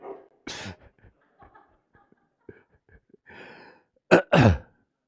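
A dog snores: a loud snorting breath, then quiet wheezy rumbles, and finally two loud nasal snorts in quick succession, with no talking.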